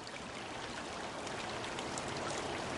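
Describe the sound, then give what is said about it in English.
A steady, continuous rush of the Long Tom River just above Fern Ridge Reservoir on a December morning under rain-laden storm clouds, a broad even hiss with light splashing texture, holding constant throughout with no voices or other sounds. “Long Tom River, just above Fern Ridge Reservoir.”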